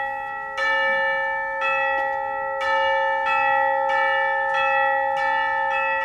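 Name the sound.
bell ringing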